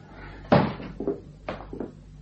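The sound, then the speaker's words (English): A door is pulled shut with a solid thud, followed by a few lighter knocks and clicks as it settles and latches, over a low steady hum. “You'd better close the door if you don't want the neighbors to hear.”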